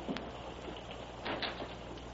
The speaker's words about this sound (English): Open the front door, Frank, and let some air in here. Stuffy.